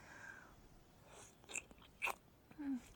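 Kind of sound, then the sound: human body sound, wet slurping mouth sounds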